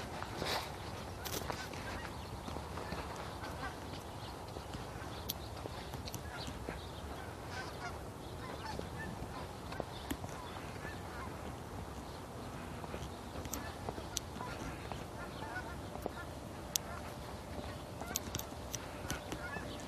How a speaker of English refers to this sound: Some more geese.